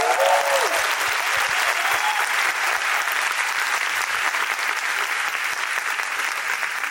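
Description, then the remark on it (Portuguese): Steady audience applause, a dense wash of many hands clapping at a constant loud level for several seconds, with a brief murmur of voices at the very start. “Palmas, por favor.”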